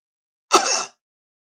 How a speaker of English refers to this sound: I coughed. Now what? Am I supposed to turn my head and cough or what?